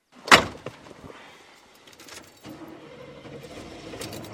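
vehicle, car engine starting up

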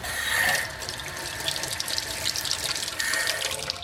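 household object, water running

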